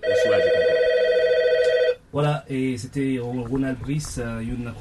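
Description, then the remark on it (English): A telephone rings steadily and loudly for about two seconds, a bright electronic trill, at a busy radio station in Dorchester that broadcasts to the Haitian community, its phone lines jammed, then stops as people begin talking. “At Radio Concord in Dorchester, a radio station which broadcasts to the Haitian community here, the phone lines were jammed.”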